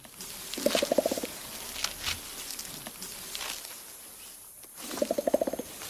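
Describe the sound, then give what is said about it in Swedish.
A gorilla beats its chest in two quick bursts of hollow, rapid thumps, each a rattling volley of about ten beats, with a quiet pause between them and no talking. “Så här låter det när en gorilla slår sig på bröstet.”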